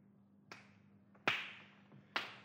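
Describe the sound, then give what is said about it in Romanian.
Three sharp hammer blows strike an orange-sized clay ball found in a tube, breaking it open to see what is inside, which turns out to be an artificial diamond. The blows come at uneven intervals, the second and third hitting harder with a brief crackling decay, over a steady low hum and no voices. “Matachit, adu un ciocan să spargem bușgulița, să vedem cine este în ea.”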